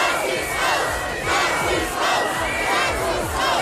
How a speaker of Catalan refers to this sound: I aquests són els crits dels manifestants contra la decisió del president austríac d'encarregar a l'extrema dreta formar aquest govern.